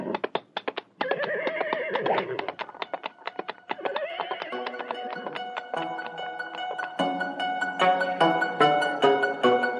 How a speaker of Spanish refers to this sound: ¡Arre, caballo! ¡Arre!